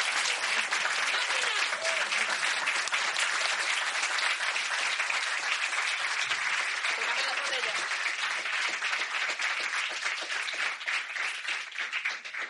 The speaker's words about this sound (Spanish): Bueno, démosle un aplauso a ellos primero, pero... Ya.